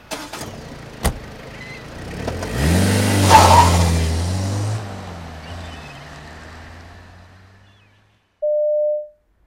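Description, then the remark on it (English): A taxi engine revs up and accelerates away toward the Golden Gate Bridge, its rising roar swelling and then fading, followed by a short, steady electronic tone at the end. “To the Golden Gate Bridge, please, driver. Stop in the middle of the bridge.”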